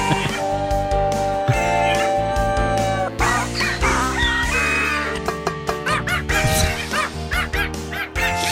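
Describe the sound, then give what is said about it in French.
A rooster crows amid a busy, loud song built from animal sounds, its call blending with a goat, a chihuahua and other animal cries and barks woven into the tune, with drums made by a cat hitting a door. No one talks. “On a la chèvre, on a le chihuahua, on a le coq.”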